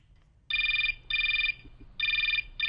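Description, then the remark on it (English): A telephone rings on an outgoing call: four short, evenly spaced electronic ring bursts, clear and fairly loud over a faint low hum, with no one speaking. “Just have to make one more phone call.”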